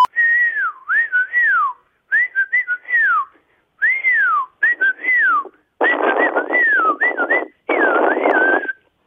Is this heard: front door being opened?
no